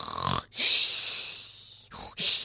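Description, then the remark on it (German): Loud snoring: a long rasping, breathy drawn-out snore followed by a short pause and the start of another, with a faint low rumble underneath and no talking. “Ja, meinst du nicht, das Jesuskind wacht auf, wenn du so laut schnarchst?”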